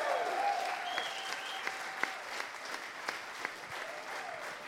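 Steady, dense applause from a sizable festival audience for two guests fills the whole stretch, with a few sharper individual claps and faint whistles or cheers rising above the wash.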